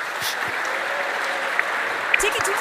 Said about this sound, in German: Ich danke euch. Der Applaus gehört euch.